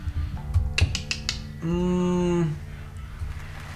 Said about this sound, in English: They're clapping for you.